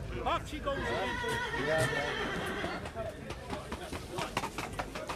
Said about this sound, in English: This side of the ground is happening all trotters. All trotting horses. See the cages?